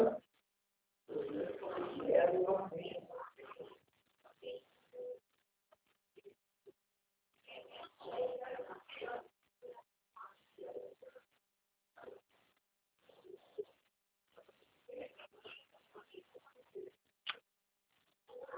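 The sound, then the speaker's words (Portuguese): A mosquito buzzes in flight in uneven, intermittent bursts, its whine rising and fading with brief quiet gaps between passes, plus a louder rustling burst near the start. “Ah, o mosquito hoje tá bom para voar, mosquito.”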